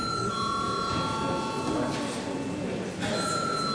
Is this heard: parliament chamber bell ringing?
yes